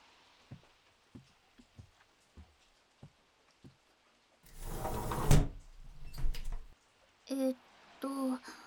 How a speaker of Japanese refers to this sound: 嫌なのにじーっと窓の外なんか見て。梅雨の雨なんか眺めてたって気が晴れることなんかないんだから。